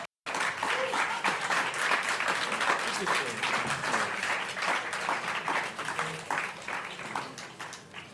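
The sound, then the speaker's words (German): An audience applauds steadily for about eight seconds as the next author is welcomed onto the stage, a dense wash of many hands clapping at an even, loud level, with faint murmuring voices mixed into the noise. “Ja, bitte einen warmen Applaus.”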